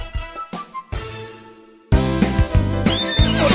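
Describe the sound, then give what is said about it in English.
A horse whinnies loudly, a quavering neigh that fades over a second or two before a burst of rhythmic, beat-driven music kicks in. “Stop what you're doing and start horsing around.”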